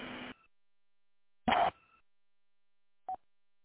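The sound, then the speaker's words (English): Satellite phone dialing tones as a call to Houston is attempted: two short electronic bursts with a faint ringing tail, then a brief final blip after a pause, heard alone. “Security Houston for sat phone. We are going to attempt to call you.”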